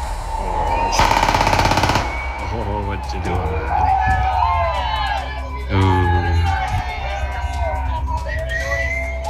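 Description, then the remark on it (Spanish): A rapid burst of automatic-weapon gunfire crackles for about a second, followed by scattered single shots, while voices talk and shout. The shots were fired in the early morning around Cerro Mariposa. “hay un arma automática, que hay un arma que lanza varios disparos.”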